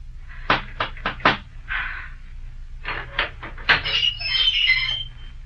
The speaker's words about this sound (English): Who's so bold as to knock here?